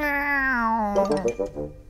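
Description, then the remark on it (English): A person imitates a cat's meow, one long drawn-out mewing note that slides downward, followed by a shorter, choppier growl-like stretch, fairly loud with no other sounds. “Meow.”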